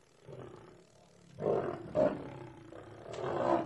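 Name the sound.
lion roaring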